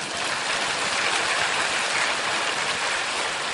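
An audience claps steadily together, a dense, even wash of many hands that holds at the same loudness for a few seconds without pause and with no voices.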